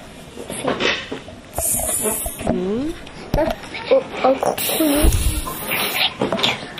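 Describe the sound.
A child imitates a snake with a drawn-out hissing "sss," repeated twice, each lasting under a second, fairly loud, while an adult voice talks around and between the hisses.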